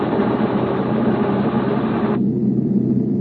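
Aircraft piston engines drone steadily and loudly throughout, a dense continuous roar with no voices; partway through, the upper hiss drops away, leaving a duller, deeper hum.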